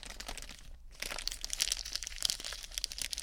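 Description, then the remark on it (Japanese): Crisp, irregular crackling of a plastic (vinyl) sheet being crinkled, held close to the microphone in a studio, a dense stream of bright snapping pops with a brief pause near the start, loud and continuous with no voices. “うん、もうちょっと薄いビニールだったら、持ってよかった気が。”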